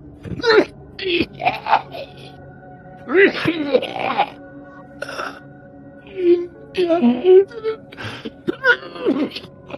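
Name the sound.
coughing and gasping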